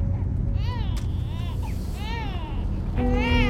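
A newborn baby fusses and cries in short, rising-and-falling wails, close by, over a steady low rumble in the background.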